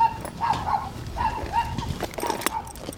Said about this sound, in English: The worst is when you drop something and it rolls off the roof, and then there's a dog in the back who looks like he's trying to eat you.